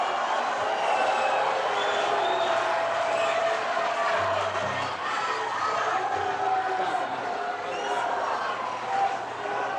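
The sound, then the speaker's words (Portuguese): A large audience makes a loud, continuous din of clapping, shouting and booing voices that fills the whole stretch without pause, a dense wall of crowd noise, some applauding and some booing a singer who is about to sing. “Eu quero pedir aos que aplaudem e aos que vaiam um pouco de lucidez nesse momento para poder entender o que eu vou cantar.”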